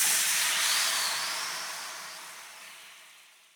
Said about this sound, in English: In the hearth, the water in the pot was boiling.